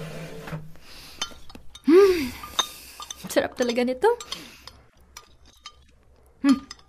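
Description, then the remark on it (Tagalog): A spoon clinks and scrapes against a plate several times as rice is scooped to eat with corned beef, sharp little metallic taps, with a person speaking briefly in between. “Makapagsandok na ng kanin at makakain na.”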